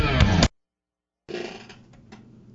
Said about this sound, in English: Hey, you didn't hear my chair creaking, did you?